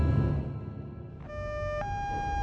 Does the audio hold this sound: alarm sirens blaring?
yes